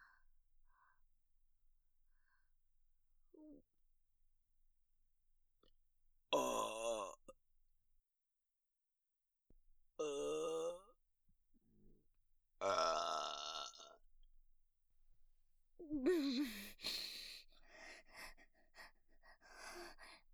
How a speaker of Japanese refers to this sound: ゲップでしょ。 おしっこの匂いの、くっさーい小便ゲップ出るわ。